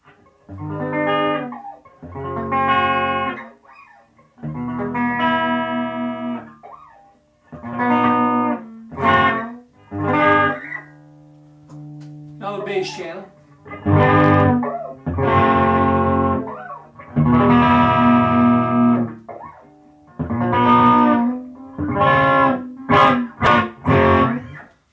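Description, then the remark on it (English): An electric guitar played through an amp's clean normal channel, with gain set to about 3.5, treble and bass at 5, and a power soak: strummed chords and ringing single notes in short phrases separated by brief pauses, fairly loud and with no talking. “So let's hear the normal channel again.”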